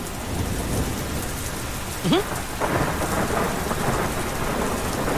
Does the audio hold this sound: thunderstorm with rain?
yes